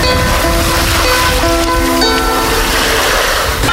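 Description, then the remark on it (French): Ocean waves wash steadily onto the Barceloneta beach in Barcelona on a warm, moonlit evening, in a continuous, fairly loud roar of surf, with faint sustained tones underneath and no one speaking. “J'aime ce calme, cette odeur, le bruit des vagues, la chaleur.”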